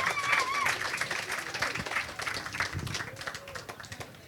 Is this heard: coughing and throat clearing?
no